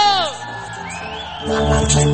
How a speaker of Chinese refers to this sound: 来来再来，让我听到你们今天晚上最大的尖叫声有多大。